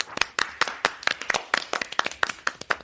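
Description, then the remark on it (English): A short, thin round of panel show audience applause for panellist Miles after his story: sharp, crisp hand claps in a fairly steady quick rhythm, about a dozen in three seconds, moderately loud, with no talking over them. “I think you got less applause than Holly because of the noms.”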